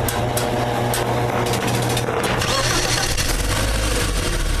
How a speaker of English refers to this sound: You hear him taking off? Or trying to. He just started his engine. That'd have been cool if he just did nothing. That's true. The Volt starting.